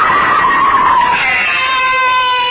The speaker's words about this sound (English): Why am I screaming? It's just a dream. I'll stop screaming.